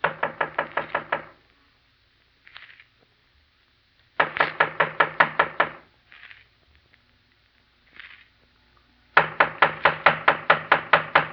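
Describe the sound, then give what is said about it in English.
Three separate bursts of rapid, loud knocking on a door, each about seven or eight quick raps, with short quiet gaps between them and faint scuffling sounds in the pauses. “Just knock on the door, huh”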